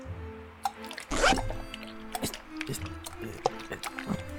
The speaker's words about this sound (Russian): Племянник расстегнул штаны и вытащил откуда-то сзади булькающую грелку.